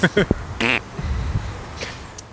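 A few short, buzzy farting noises in quick succession, raspy, followed by a softer, low rumbling tail.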